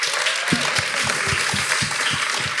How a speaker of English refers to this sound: All right, can we please give Rena a huge round of applause?